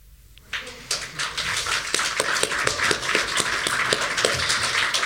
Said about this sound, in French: Je me joins aux applaudissements et voilà.